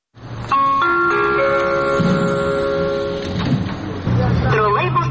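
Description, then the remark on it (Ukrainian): An electronic announcement chime from a trolleybus route announcement device in Rivne plays a short melody of bright, sustained stepped tones for about three seconds. A voice then announces the trolleybus route number, with a low engine hum underneath throughout. “давайте послухаємо, власне, як працює цей ваш пристрій і як люди дізнаються про номер тролейбуса.”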